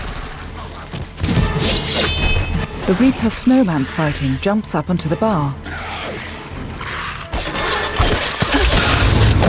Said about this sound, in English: Trooper fires a volley of bullets anyway.